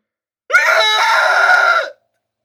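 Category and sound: human body sound, loud human scream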